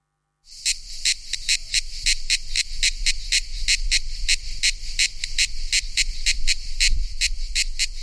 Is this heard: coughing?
no